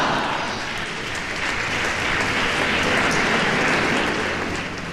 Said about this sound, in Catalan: Escoltàvem el moment més intens viscut amb aquest clam col·lectiu que ha fet vibrar el temple i que ha marcat el pas definitiu de la solemnitat a la celebració popular.